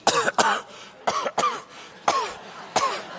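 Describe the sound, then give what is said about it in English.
A person coughs repeatedly in short paired bursts, about six harsh coughs in quick succession, close and fairly loud with no talking. “I'm sorry, I just got a little cough because of this smoking gun I just found.”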